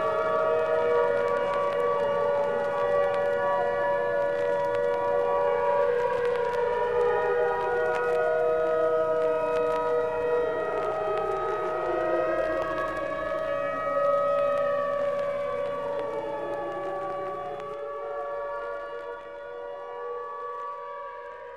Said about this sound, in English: Walking home from the supermarket, Nye hears the distant song of the fire siren. The fire siren sits perched high atop its red brick engine house, luring firemen away from their families and homes.